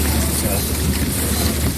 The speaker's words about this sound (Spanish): Este es el sonido de la fina capa de lluvia que esta noche caía sobre los camiones de bomberos que intentan sofocar todavía el grave incendio forestal de Vejís, en Castellón.